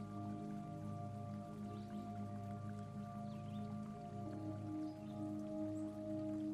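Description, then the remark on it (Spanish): Steady water trickling and splashing from a stone fountain in a garden, a continuous babble of small drips and flowing water, with a soft low hum running underneath and no voices. “Tras pasear por aquel fantástico jardín repleto de increíbles olores, colores y sueños, te acercas a la fuente de piedra.”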